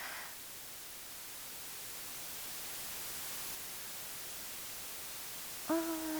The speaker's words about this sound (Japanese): ホワイトノイズ。